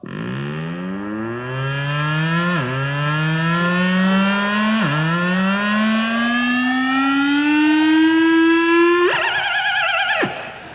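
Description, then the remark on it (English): An electronic instrument mimics a car: a buzzy tone climbs steadily with two sudden dips like gear changes, then breaks into a brief rapid warble like an alarm before cutting off. No one speaks. “Here's an impression of a car.”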